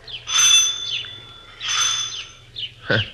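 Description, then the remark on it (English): An old-style doorbell at the front door of a large two-story rooming house on Ingram Street rings twice in close succession, each a bright, rattling burst lasting under a second, followed by a short, sharp tone at the end. No one speaks. “We went up to the front door and rang the bell.”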